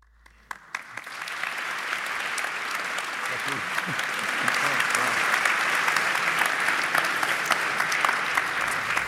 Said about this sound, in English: My name is David Runciman and this is Talking Politics. It's a special live edition. I can tell from the fact that you clapped already that you are as relieved as we are that Rory is here.